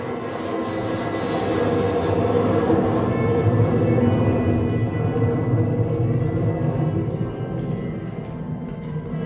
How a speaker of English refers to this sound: Now listen in here. We have a plane overhead.